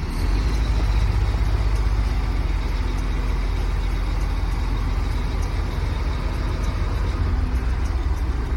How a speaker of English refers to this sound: We continue on to Punta Delgada to cross the Magellan Strait. The very south of the continent is a collection of islands, Tierra del Fuego. And to get to Isla Grande de Tierra del Fuego, we drive onto a ferry.